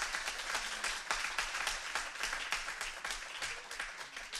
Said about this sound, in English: Somebody give the Lord a good hand clap if you would. Give Jesus some praise.